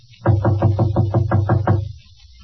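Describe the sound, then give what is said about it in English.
Seven quick, evenly spaced knocks on the partly open door of apartment 5D, fairly loud, landing in a steady rhythm before falling silent, with no voices. “I'll knock again.”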